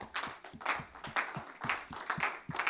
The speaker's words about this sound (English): Well, praise God. Can we give the Lord a hand clap of praise and thanks?